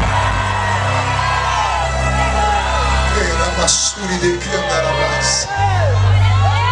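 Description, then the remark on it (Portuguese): A large crowd of worshippers at a night vigil erupts in loud, sustained shouting and cheering in praise of God, many voices yelling and whooping together, with a steady low rumble underneath throughout. “Então agora não dá um grito, não dá um berro de glória a Deus aqui.”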